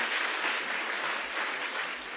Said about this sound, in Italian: Facciamo un forte applauso al Signore, perché abbiamo un Dio presente. Alleluia!